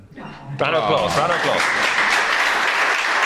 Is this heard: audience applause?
yes